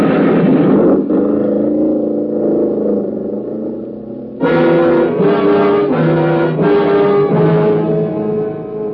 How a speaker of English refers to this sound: Ooh. It's a couple of those hot rods piled up with a bunch of youngsters.